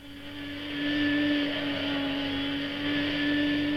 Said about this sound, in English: Darling. Don't disturb me. I'm hoovering. Oh, you're always hoovering.